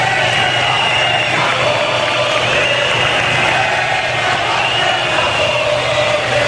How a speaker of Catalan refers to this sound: Els assistents han rebut Pedro Sánchez amb una xiulada important que s'ha repetit també al final de la marxa i que s'ha combinat amb crits com aquest.